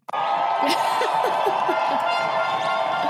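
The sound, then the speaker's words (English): A dense crowd cheers and roars continuously, played as a sound effect for a mock game show, with scattered whoops and shouts rising above a steady wash of noise, loud and sustained throughout. “And the crowd goes wild.”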